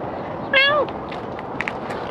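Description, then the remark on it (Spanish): A single short, clear meow from a cat being greeted and petted rises and falls over a steady background hiss, followed by a few faint clicks and light rustling. “¿Con dos miaus era suficiente?”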